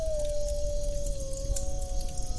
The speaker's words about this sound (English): It is the wolves, servants of Our Lady, keepers of the moon and her ways. They come to us now in our hour of need.